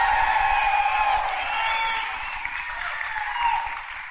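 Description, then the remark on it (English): A large audience in Denver applauds and cheers steadily for Josh Blue, a dense wash of clapping with scattered whoops that holds at a fairly even level throughout, with no talking. “So Todd Glass, you got to try to get a bigger round of applause for what you say after I give your upcoming dates.”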